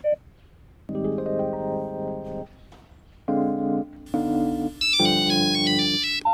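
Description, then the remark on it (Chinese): A mobile phone ringtone plays a bright electronic melody in several loud bursts of sustained tones separated by short pauses, with no one speaking. “我用智障型手机。”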